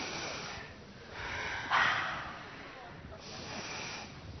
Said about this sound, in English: Who's that snoring? It's terrible.